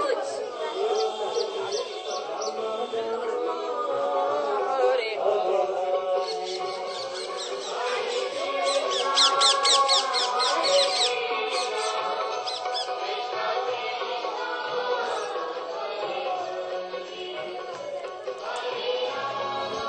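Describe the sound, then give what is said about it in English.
Many monkeys chatter and squeak continuously at a temple, a busy overlapping mass of high-pitched chirps and squeals, with a dense burst of rapid calls near the middle. “There is so many monkey, but they're not afraid, they feel he is very peaceful.”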